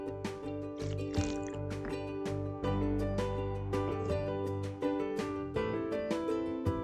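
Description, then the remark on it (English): A drink of watermelon soda being sipped, with a run of wet slurping and swallowing sounds in uneven bursts, fairly loud and with no talking over it. “So I'm gonna take a sip of my watermelon soda.”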